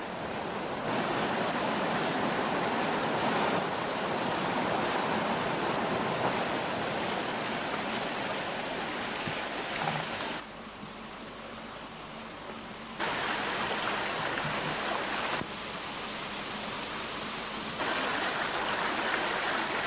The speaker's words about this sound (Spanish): Sigo las aguas del río y en la Chanera, una represa que detiene el Manzanas y que en verano resulta una excelente piscina natural, me detengo descaradamente para mirar y observar tranquilo lo que por mis alrededores me circunda.